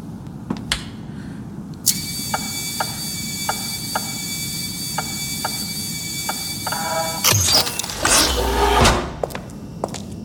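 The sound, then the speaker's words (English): A door opens mechanically: a sudden humming whine with steady ticking clicks, then a loud whooshing slide that ends in a low thud. No voices. “Just the door, right?”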